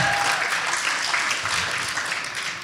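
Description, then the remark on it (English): A crowd at a Young Adults gathering applauds the worship team steadily, a dense, even wash of many hands clapping at once that holds at a fairly strong level throughout, with no voices standing out. “I think we should clap for the worship team.”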